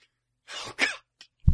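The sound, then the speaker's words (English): A person imitates a horse with two breathy, snorting bursts, a brief click, then a low rough blow through the lips at the end, fairly loud. “And then there's the horse, which is...”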